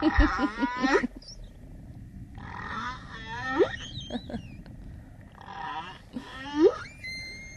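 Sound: humpback whale song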